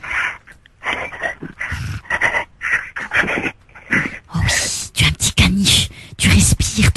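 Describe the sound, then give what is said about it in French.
A person imitates a dog while licking a keyboard, making a steady run of rough, breathy growls and panting huffs in quick repeated bursts, with no clear speech. “Fais-moi des grognements de chien discrètement pendant que tu es en train de lécher.”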